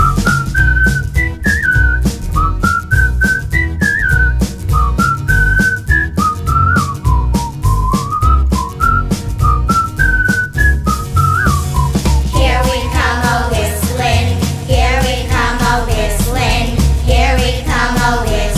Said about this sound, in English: Here we come a whistling among the leaves so green. Here we come a whistling so fair to be seen.